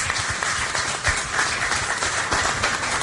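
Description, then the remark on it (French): Steady audience applause for a guest on the concert show Cause Kilti, many hands clapping densely and evenly at a fairly loud level for a few seconds, with no voices over it. “J'ai à ma droite une invitée que je vous demande d'applaudir”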